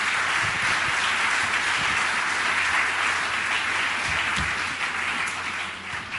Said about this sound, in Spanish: Muchas gracias. Y un aplauso por estar aquí